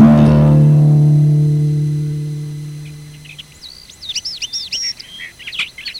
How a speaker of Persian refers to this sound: صبح روز بعد با سر و صدای پرنده ها مادر محمد از خواب بیدار شد